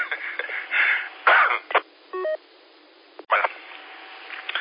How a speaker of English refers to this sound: Something went down the wrong pipe there.